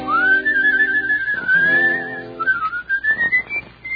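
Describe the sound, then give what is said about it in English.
A person whistles a wavering, sliding tune for several seconds, the pitch rising and bending between held notes, fairly loud with no talking over it. “The whistle won't come out, huh? The whistle goes in here, too. I want to hear you whistle.”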